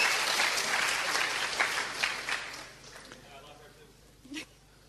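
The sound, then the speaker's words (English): An audience breaks into dense, steady applause for the speaker's interpreter. It holds strong for a few seconds, then thins out and fades to scattered claps before a short, faint sound near the end. “You must give an applause to my wonderful interpreter.”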